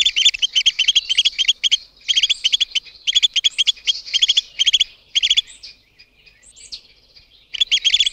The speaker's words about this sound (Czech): Mláďata můžeme slyšet, jak hlasitě žadoní o potravu.